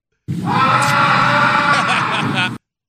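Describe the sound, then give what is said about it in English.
A person in a baseball team's clubhouse lets out a single loud, sustained shriek lasting a couple of seconds, harsh, with no other talking around it. “Just someone in the clubhouse. I relate. Shrieking in.”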